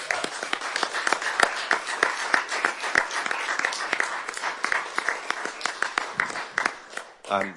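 A round of applause from a small group at a council meeting, given as a farewell to a departing colleague: dense, overlapping hand claps keep up a steady crackling patter for several seconds before thinning out at the end.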